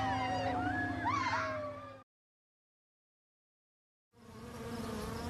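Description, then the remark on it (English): A bee buzzes loudly in flight, its droning hum rising and dipping in pitch, cutting off into a couple seconds of silence before the buzzing returns. “A bee flies in the sky.”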